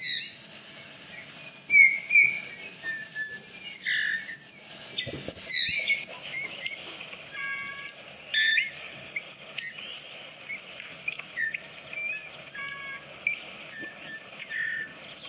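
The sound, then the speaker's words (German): A recording of a finch singing an unusually flute-like, whistled song, untypical for a finch, with clear tonal phrases and short chirps repeating over a soft background of other birdsong; no one speaks. “er hat ein überraschend flötenden Gesang.”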